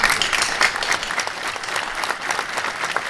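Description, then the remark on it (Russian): Loud, sustained applause from a large crowd in a hall at the founding of the Latvian political party Latvijas attīstībai, greeting Einars Repše's return to politics: a dense steady wash of many hands clapping at once with no pauses, holding its level for the whole stretch. “Эйнар Репше вернулся в политику под громкие аплодисменты”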